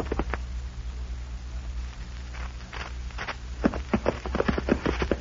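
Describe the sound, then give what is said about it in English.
Horses' hooves clip-clop as riders travel after dark, a short distance from a small cattle town, in a steady, uneven rhythm, sparse at first and then quicker and louder toward the end, over a low background rumble with no voices. “Boy and the boys are riding into an experience right now”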